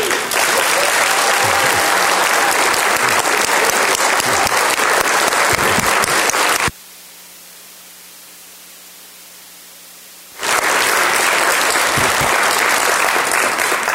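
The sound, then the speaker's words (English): A large audience at a conference banquet claps loudly and steadily to thank the conference organizers. The applause cuts off abruptly into a few seconds of near-silence with a faint low hum, then resumes just as dense and strong. “You started clapping before I could add the third person.”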